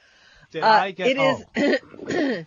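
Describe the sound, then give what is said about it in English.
A male caller from Des Moines, Iowa clears his throat and coughs in four rough, throaty bursts, fairly loud, separated by brief pauses. “Did you get a diagnosis for your cough?”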